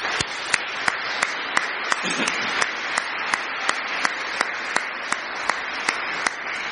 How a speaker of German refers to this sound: Bevor ich euch und Ihnen Gottes Segen mit auf den Weg in diesen Tag und in die neue Woche gebe, möchte ich unseren Konfirmanden noch mal ganz herzlich Dank sagen. Sie haben sich, glaube ich, wacker geschlagen, und das ist noch mal ein Applaus wert.